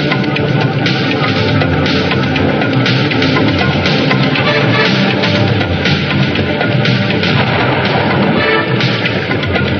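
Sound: distant cannon fire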